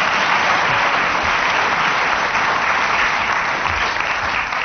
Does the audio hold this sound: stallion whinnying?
no